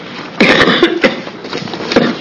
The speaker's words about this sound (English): Sorry for the coughing. I've got terrible allergies.